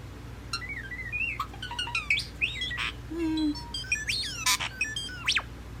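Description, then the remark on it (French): A starling sings a busy, varied stream of whistles, clicks, rising slides and sharp buzzy notes, continuous, over a low steady hum with no talking. “Les étourneaux doivent apprendre à chanter auprès de leurs parents.”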